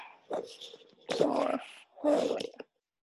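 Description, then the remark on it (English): A puppy whimpers and yips in three short, whiny bursts separated by brief pauses. The sound is moderately loud, with no talking. “Where's my puppy?”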